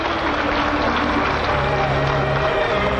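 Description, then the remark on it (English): An audience at the Miss Great Britain contest applauds the second-place finisher warmly, a dense, steady wash of many hands clapping at an even level for the full few seconds, with no distinct voices over it. “Archie applauds Tina warmly.”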